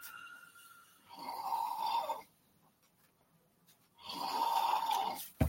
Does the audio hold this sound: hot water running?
no